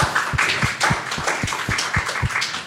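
Audience applause: a dense, steady patter of many hands clapping at moderate loudness, with a few sharper claps keeping an even rhythm throughout. No one speaks.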